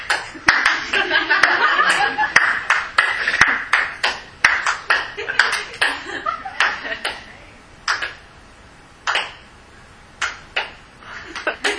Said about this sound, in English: So you hear him, you clap. You hear him, you clap. And if I don't, I still clap. You still clap to my own drummer. To your own drummer.